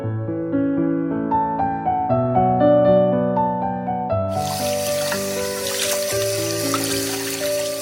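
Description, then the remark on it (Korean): Gentle melodic music plays alone, then about halfway through a steady rushing hiss of tap water starts and keeps running beneath the music as dishes are washed at a sink. “사랑하는 딸, 꿀바나나는 설거지도 쉽지? 뽀독뽀독 씻은 그릇을 제자리에 돌려놓고”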